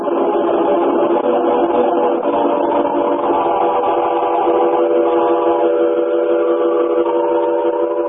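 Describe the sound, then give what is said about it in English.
A train pulling out of a station, its horn sounding in one long, loud, steady blast over the rumble and clatter of the cars, with no one speaking. “But hey, the train's pulling out, lad.”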